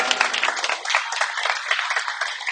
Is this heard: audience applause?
yes